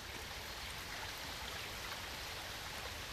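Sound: flowing river water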